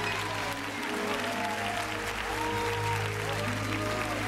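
Steady, dense applause from a large crowd fills the space, many hands clapping continuously at a fairly loud level with a faint murmur of voices underneath.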